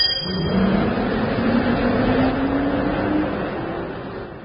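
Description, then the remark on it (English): A bus engine revs and pulls away, its low steady drone rising slightly in pitch as it accelerates, loud throughout with no voices. “Just get on this bus.”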